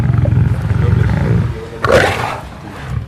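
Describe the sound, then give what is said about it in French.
A pet lioness named Malika roars, a deep rumbling growl building into a louder, breathy roar near the end, with no voices. “Grâce à sa lionne, il est un influenceur avec des milliers d'abonnés.”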